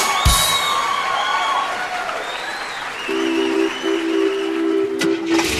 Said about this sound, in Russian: Первый приз получает последний номер. И это номер 306. Аплодисменты!